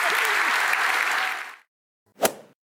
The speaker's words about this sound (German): Ich habe hier ganz viel Nicken und guck mal, Klatschen gehört. Das ist dein Applaus.